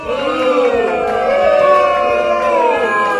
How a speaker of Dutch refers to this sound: Ik hoor echt heel veel boegeroep. Dit is al het publiek van Top Het Radio.